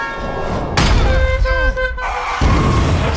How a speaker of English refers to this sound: Jabari skids under a car as it flies into the air with the force of an explosion